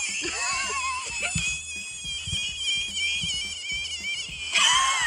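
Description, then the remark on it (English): A frog being picked up by a person for a TikTok video lets out a continuous shrill, wavering scream, almost like a yowling cat, with faint handling bumps underneath. Near the end it swells into a louder, higher cry. “Some frogs apparently don't like to be touched.”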